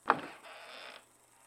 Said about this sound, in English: The basement door creaking open.